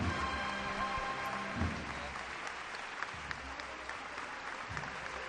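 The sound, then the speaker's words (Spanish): Steady applause from a street crowd greets a procession float (paso) fully in the plaza at El Salvador, heading toward Calle Cuna: a dense, continuous patter of many hands clapping, with low murmuring voices underneath. “Primeros aplausos en El Salvador.”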